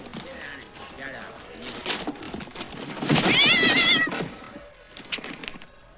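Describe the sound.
A fox gives one loud, wavering, high-pitched meow-like cry lasting about a second, set against rustling background noise and faint, indistinct voices.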